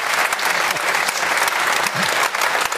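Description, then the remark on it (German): Sustained applause from a crowd, a dense steady patter of many hands clapping at an even loudness throughout, with a faint murmur of voices underneath. “auch wenn du jetzt den Applaus bekommen hast”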